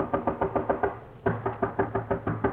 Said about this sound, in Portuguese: Bate de leve à porta. Não obtendo qualquer resposta, bate com mais força. Nada. Nenhuma resposta ainda. Estranhando cada vez mais tudo aquilo, bate mais forte ainda.